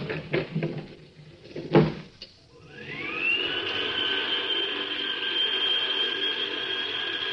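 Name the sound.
elevator door closing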